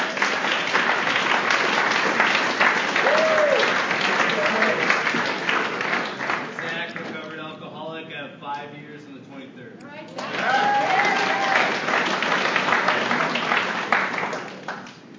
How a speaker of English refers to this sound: All right, we have a couple more. Can we just hold the applause to the end?